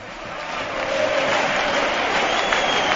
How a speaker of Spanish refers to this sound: Hay ovación para el equipo Atlético, para Sergio Ramos y sus compañeros.